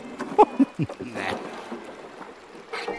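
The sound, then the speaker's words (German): A few wooden knocks and thumps, then creaking as a barefoot girl steps into a small rowing boat on a river, with faint water lapping around the hull. “Oh, hat sie etwa vor, in dieses Boot da zu steigen?”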